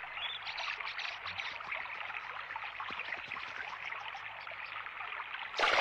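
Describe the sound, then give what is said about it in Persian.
Steady river water flows and babbles continuously, a dense rushing wash, with a brief louder splash or surge right at the end. “اون از اینجا پرید تو رود خونه.”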